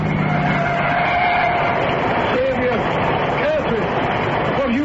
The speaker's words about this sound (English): Oh, there's a car coming. I see headlights. Let's stand at the wayside of the road.